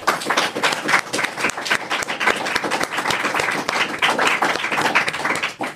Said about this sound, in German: Begrüßen Sie mit mir ganz herzlich und nichts weniger als tosender Applaus wird akzeptiert